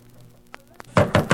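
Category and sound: household object, knocking on a door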